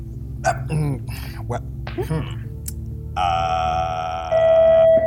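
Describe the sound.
Weird electronic beeping: after a stretch of murmuring voice-like sounds, a steady, buzzy electronic tone sounds for about a second, then drops to a slightly lower pitch and grows louder.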